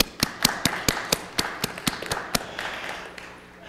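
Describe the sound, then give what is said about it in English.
Applause from a seated audience for mothers on Mother's Day, with about ten sharp, evenly spaced claps standing out over a softer wash of clapping that thins out and fades toward the end. No one speaks. “You want to stand and get an applause? Okay, we'll get applause by their sitting.”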